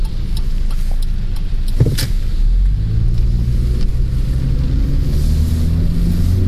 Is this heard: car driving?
yes